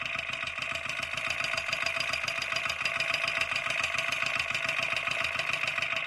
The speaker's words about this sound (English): It's like a rattle. The valves going up and down.